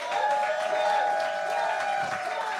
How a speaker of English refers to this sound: When you agree with my decision, I would like for you to cheer. Give that a shot right now.